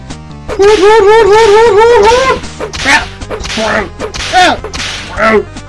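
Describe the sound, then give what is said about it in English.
A warbling, wavering electronic cry gives way to a rapid series of about five loud, sharp whip lashes from a Pokémon video game, Bellsprout's Vine Whip attack, each a quick swishing crack in a steady rhythm. “Bellsprout, use Vine Whip!”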